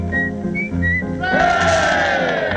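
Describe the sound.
A person whistles an imitation of a bullfinch call: a few short, high piping notes, then a louder, fuller tone that swoops up and slowly falls, over a low steady hum.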